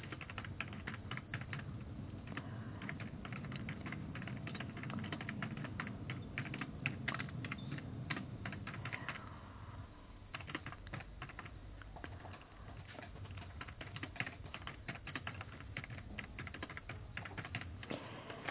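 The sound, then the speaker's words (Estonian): Rapid, continuous typing on a computer keyboard as someone writes a message to a person again, a dense patter of crisp key clicks with brief pauses and bursts, steady throughout with no talking. “Oota, ma korra kirjutan talle uuesti.”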